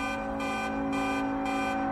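Dense city traffic at a standstill outside Union Station with the stoplights out, a sustained, blaring car horn held over a constant loud engine rumble and a steady pulsing background din, unbroken throughout.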